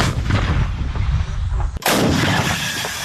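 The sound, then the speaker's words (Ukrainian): A heavy artillery gun fires a shell that lands near its target, within about 10 metres, with one sudden, loud boom partway through, over a constant rumbling roar that continues after the blast. No one speaks. “Це біля цілі лягло, так як ми стріляємо, це приблизно відхилення було десь до 10 метрів.”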